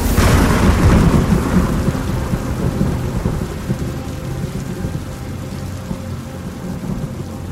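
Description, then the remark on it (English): Heavy rain pours down steadily while a loud, close rumble of thunder rolls at the start and slowly fades into a continuous low growl beneath the downpour. “an avalanche of rain flooded down onto me, and the thunder, much closer now, roared in my ears.”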